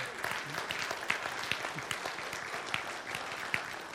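An audience claps steadily for about four seconds, many hands producing a dense, crackling wash of applause at an even, moderate level with no clear voices.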